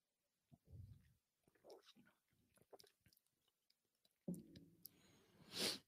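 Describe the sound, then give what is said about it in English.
Quiet mouth sounds of someone sipping a drink: soft wet slurps and swallows, then a low gulp and a brief breathy exhale at the end, with no talking. “Let me take me a sip and get this conversation going.”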